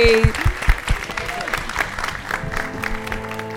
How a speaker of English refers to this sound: Thank you so much. You've been such a wonderful audience. Please give a huge round of applause to your amazing guests